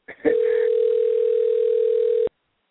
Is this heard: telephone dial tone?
yes